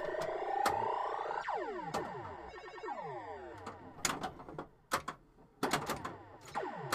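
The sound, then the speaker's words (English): Sharp, loud knocks from a pinball machine knocker, made by a reprogrammed solenoid driven by custom software, strike at irregular intervals, some in quick pairs, over a busy wash of descending electronic tones and machine noise, with no one talking. “They didn't have solenoids to, so he reprogrammed one. So now it did knocks.”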